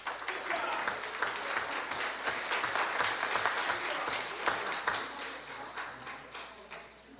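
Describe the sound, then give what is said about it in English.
An audience applauds steadily for several seconds, a dense, even patter of many hands clapping at once that holds its level throughout before easing slightly at the end. “Give this a round of applause.”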